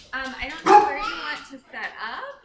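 A dog, Luna, a family dog living on the outskirts of East Palestine, barks and yips in three fairly loud bursts, the middle one sharpest, with brief pauses between them and no other sounds around.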